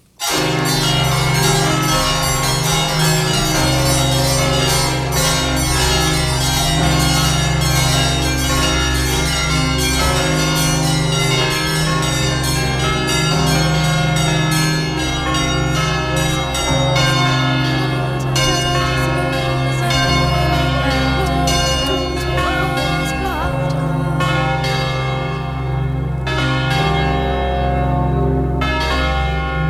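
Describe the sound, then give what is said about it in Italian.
A church bell peals with repeated strikes, its rich, overlapping resonance building into a dense, shimmering wash that stays loud throughout, with no voices. “Realisticamente lo scompanio sparisce piano piano e fra poco comincerete a sentire l'elaborazione elettronica dei suoni della campana.”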